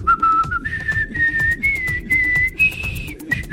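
A person whistles the lively melody of the Marseillaise, the clear tone stepping steadily upward in pitch over a few seconds, over a low, busy rumble of background noise.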